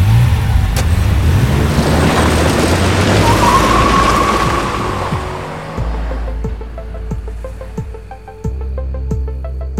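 A car tears away with a loud rush of engine noise and a brief squeal of skidding tyres, then settles into a steadier, rumbling engine drone as it speeds off.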